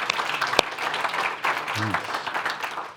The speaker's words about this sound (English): So, hey, we should clap because it was great.